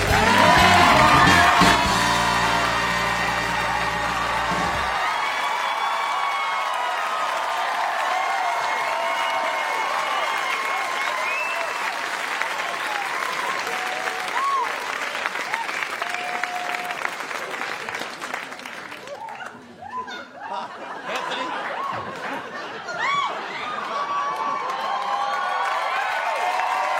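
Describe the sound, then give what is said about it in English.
A large audience bursts into sustained applause with cheers and whoops as a guest is welcomed onto a show, beginning with a brief loud musical fanfare, then a steady wash of clapping that thins slightly near the end. “The crowd can't get over it either.”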